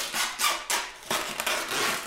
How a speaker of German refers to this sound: So klingt es, wenn Teppichmesser ausgefahren werden.